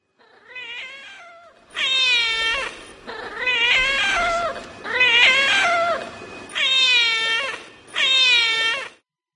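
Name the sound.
cat meowing and caterwauling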